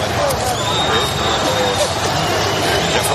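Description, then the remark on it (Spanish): A large crowd boos and jeers at Spanish Prime Minister Mariano Rajoy in 2015, steadily for a few seconds, a dense roar of many voices with no pause or break, holding at an even, loud level throughout. “Y lo mismo ocurría en 2015. En esta ocasión, quien recibía esos abucheos era Mariano Rajoy.”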